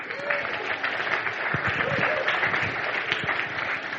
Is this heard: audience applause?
yes